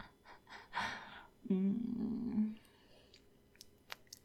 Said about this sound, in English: I love how that makes you squirm. Your gasps are just music to my ears.